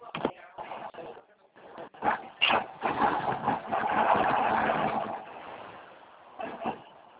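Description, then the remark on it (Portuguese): Heavy truck engines rumble and rev as the trucks maneuver inside a cement factory where cement is being loaded, with a sustained louder stretch mid-way and scattered clunks and knocks around it, no talking. “Peraí, que eu tô, é porque eu tô dentro da fábrica tirando uma carga de cimento aqui e tem uns caminhões querendo passar na minha frente.”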